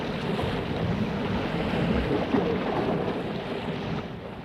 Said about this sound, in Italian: Imploro il Dio dei mori che conceda la salvezza alla svelta navicella. Quello dal cielo gli manda una tempesta per farla navigare ancor più lesta.